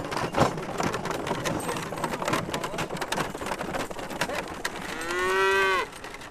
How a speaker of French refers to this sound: Entre meuglement, bruit de chaîne et craquement de bois, nous retrouvons tout à la fin du peloton